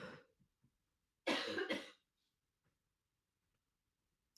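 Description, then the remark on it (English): A woman coughs in a short, harsh burst of two or three rough coughs, with a softer throaty sound just before and a faint click at the end, otherwise quiet. “Ruh-roh, she won't stop coughing.”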